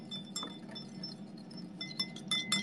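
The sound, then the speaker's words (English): A small whisk clinks rapidly against a bowl while mixing hot sauce, producing bright, high metallic taps in an uneven rhythm that quicken and grow louder toward the end, over a low steady hum. “Baby whisk. Baby whisk.”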